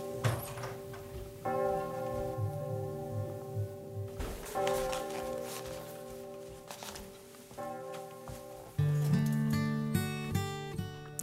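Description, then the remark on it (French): Bells ring in the distance, several struck tones arriving in overlapping waves, each leaving a long shimmering hum that hangs in the air, with no voices present. “Vous entendez les cloches au loin?”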